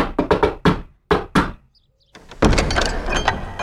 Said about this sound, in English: I'll just give the door the required number of knocks.